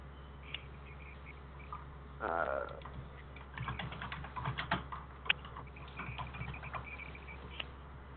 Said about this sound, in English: Somebody's typing.